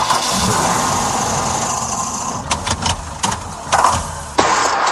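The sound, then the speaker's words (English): A car engine labors and sputters as it tries to start in cold, wintry weather, a steady mechanical churn broken by several sharp, uneven bursts near the end, fairly loud with no voices. “Brr, your car sounds like it needs a snow day.”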